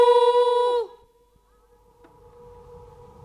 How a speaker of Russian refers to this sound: Что это? Эхо. Какое эхо? Ну, эхо, не знаешь, какое эхо? Ах, эхо, знаю. Ау! А чего это оно откликается? Не знаю. Говорят, это звук отражается.